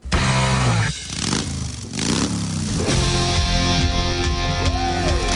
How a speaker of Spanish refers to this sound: Aquí estamos comenzando, acelerando, ahí está el sonido, por supuesto